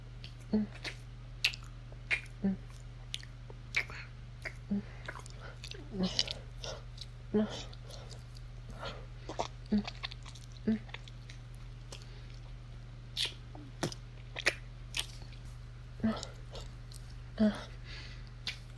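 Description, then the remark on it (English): Wet slurping and licking mouth sounds repeat irregularly over a steady low hum, each one a soft smacking click with moist squelches between them. “Do you like hearing me slurp my own cum out of you?”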